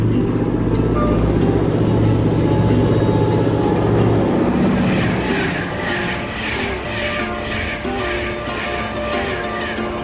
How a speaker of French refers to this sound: Alors ici, on est... On est à la gare de Liancourt-Antigny.